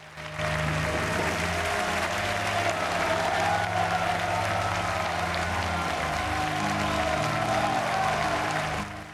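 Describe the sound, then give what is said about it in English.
A large audience gives a standing ovation as Jacqueline Dupré receives her prize at a competition, dense clapping sustained steadily and loudly for several seconds over a low musical hum, then fading at the end. “Her parents join the audience in the standing ovation.”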